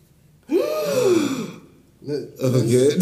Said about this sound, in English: Collective gasp.